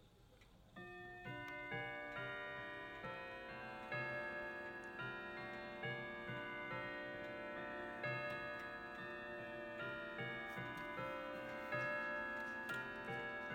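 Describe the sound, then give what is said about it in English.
A clock ticks steadily, its regular beat running throughout over sustained, ringing bell-like tones that shimmer and decay. No one speaks. “Are you playing silly buggers with me, clock?”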